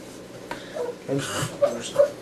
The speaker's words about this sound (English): Sorry, the doggy's all doing crying and making us feel bad, so we're gonna let her pee quick.